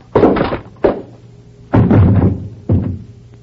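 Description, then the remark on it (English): A man is struck on the head with a paperweight: a heavy blunt blow lands with a dull thud, followed by three more loud thumps at uneven intervals, each ringing briefly before fading, with no talking. “You knocked him cold.”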